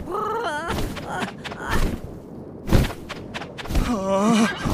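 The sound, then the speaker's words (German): A winged horse being ridden whinnies in a shaky, wavering call, then heavy hoof thuds land at an uneven pace before a second quavering whinny rises at the end. “Ich muss von dem Pferd runter.”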